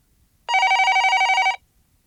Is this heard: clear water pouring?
no